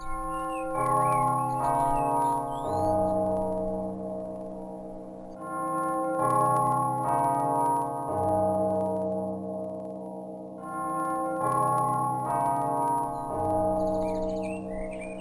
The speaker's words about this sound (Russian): Но в это время зазвонил колокол.